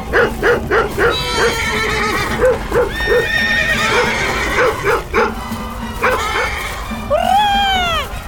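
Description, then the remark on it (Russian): Several frightened horses neigh and whinny loudly over a steady drumming of hooves after a dog barks at them, ending with a long shrill whinny that trails downward as the herd scatters and gallops off. “Индейцы повскакивали, оставили свой ритуал и бросились догонять лошадей.”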